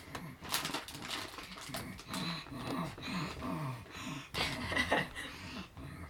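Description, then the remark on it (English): Heavy, rapid breathing, a steady run of loud huffs and pants with a slightly voiced, grunting edge, continuing throughout with no talking. “Why are you breathing so hard?”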